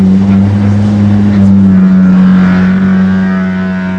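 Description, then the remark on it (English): A large, historic Lake Michigan car ferry leaving the dock at Manitowoc: its deep, steady engine drone fills the scene while a grinding, creaking scrape against wooden dock pilings builds over it, loud, with no voices. “As the Badger scrapes against wooden pilings on its way out of the Manitowoc dock, Lake Michigan Car Ferry says it hopes to keep the Badger running for many years.”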